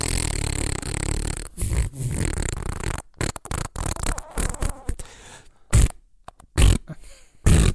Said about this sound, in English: And as he rushed off to the toilet, he let out the manliest of longest of smelliest farts you have ever heard in your life.